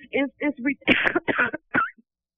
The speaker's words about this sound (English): It's ridiculous. I had this cough for years, and it's not going away.